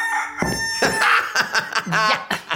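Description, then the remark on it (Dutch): A rooster clucks and crows, loud bursts of harsh, rising calls and choppy clucks in quick succession with no talking. “Genoeg met die haan.”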